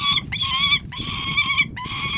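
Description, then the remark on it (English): A hawk named Storm makes contented noises while eating bits of pheasant meat in the grass near Augusta, Kansas: loud, high, harmonic squealing chatter in three sustained bursts separated by brief pauses, with no voices. “And she makes contented noises as she eats.”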